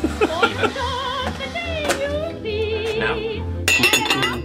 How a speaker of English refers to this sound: I'm warming up the kettle now, or the teapot.